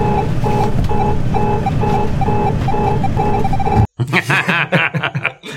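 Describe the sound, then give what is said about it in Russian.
Parking-sensor-like beeping in a film scene where a plane crashes into residential houses: a steady, evenly spaced run of about eight mid-pitched electronic beeps over a rumbling background, then an abrupt cut to a louder, jumbled burst with voices. “Врезается он, кстати, в жилые дома с звуком, характерным для парктроника.”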